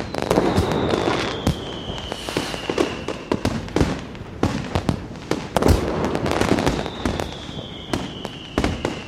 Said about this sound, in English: I've also created a fireworks button. Put your hands on your ears because this is bloody loud.